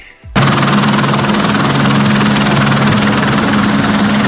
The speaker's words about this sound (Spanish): Así han trabajado sin descanso en el entorno de Plasencia. Es un helicóptero del Infoex peinando palmo a palmo la zona en la que desapareció un vecino de la capital del Jerte de 50 años el domingo y que salió a practicar su afición, la escalada.